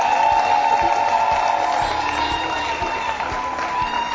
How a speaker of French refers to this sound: Applaudissez très très très très fort.